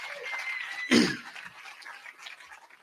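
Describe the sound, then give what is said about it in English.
An audience claps steadily for the event's hosts and everybody who came, a dense, bright patter of many hands, with one louder burst near the start before the clapping gradually thins out. “Let's give it a round of applause to them and everybody that came.”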